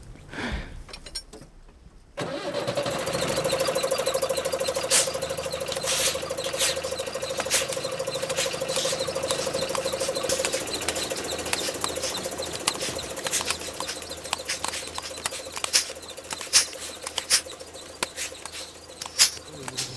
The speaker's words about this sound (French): Des bruits de sécateur là, oui, ouais, c'est pneumatique. Ça fait un peu un concert, ouais, parfois, mais c'est plus joli sans le moteur.